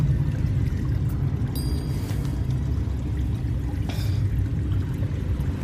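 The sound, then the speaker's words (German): Steady rushing water fills the background, with a couple of brief, brighter splashes standing out near the middle and toward the end. No voices are heard. “Was machen wir? Wir checken das Wasser.”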